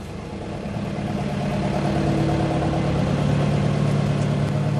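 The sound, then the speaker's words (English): A boat's motor engine drones steadily as the boat departs, lines being taken in, heading out into Tralee Bay. Its low hum builds slightly in loudness and holds a constant rumble throughout, with no voices. “And just ripping off the boat there now”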